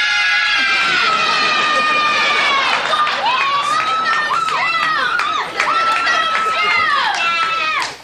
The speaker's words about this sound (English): Now, would the contestants please line up for the judging? Now, judges, your applause will determine a winner. We have contestant number one. Yeah!